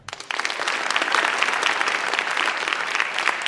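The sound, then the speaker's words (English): A crowd of UNC students, voting by clapping, breaks into loud, sustained applause, dense overlapping claps building quickly after a brief start and holding steady throughout with no voices standing out. “And all right, now, deafening applause.”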